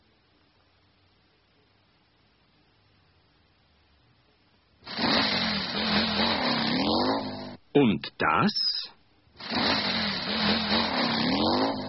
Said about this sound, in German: Das ist ein Motorrad. Ein Motorrad. Ein deutsches Motorrad.